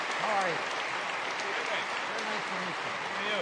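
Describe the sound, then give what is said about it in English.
A steady wash of audience applause fills the room as the man who discovered a 3-million-year-old fossil is introduced, dense and continuous clapping from a large crowd, with faint voices and cheers rising here and there underneath. “Wow, what a crowd.”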